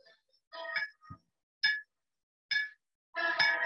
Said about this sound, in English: An alarm sounds in the weapons direction section.